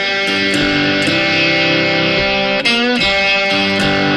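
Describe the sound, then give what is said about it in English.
A heavily distorted electric guitar plays the loud, sustained intro riff of a song, shifting between thick chords every half second or so, with no voices. “Now, on the recording, they start off with distortion for this part, so you'll get more of this.”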